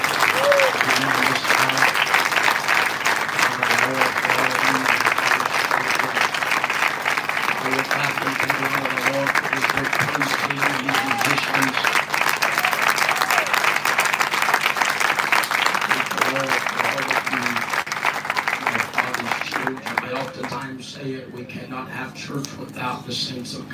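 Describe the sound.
A crowd in Ohio breaks into sustained, loud applause for the leadership, dense hand claps rolling steadily for over twenty seconds, with voices murmuring and calling out beneath, before thinning toward the end.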